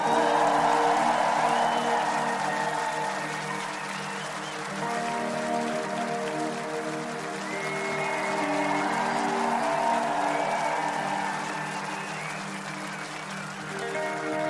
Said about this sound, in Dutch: Er zijn hier achter in de backstage ook zoveel mensen aan het werken. Je hebt er geen idee van. En die mensen zijn hier ook aan het werken op Vaderdag zonder hun kindjes. Mag ik daar een heel groot applaus voor?